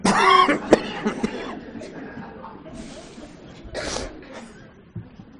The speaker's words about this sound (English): Let's all cough together.